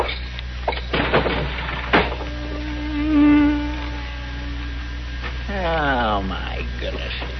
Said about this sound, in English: I'd as soon get stung as listen to all that buzzing.